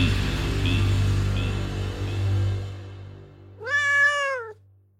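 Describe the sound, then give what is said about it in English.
A single clear house cat meow, about a second long, rising then falling in pitch. It comes after a few seconds of low background hum. “And the wild ancestors of your house cat.”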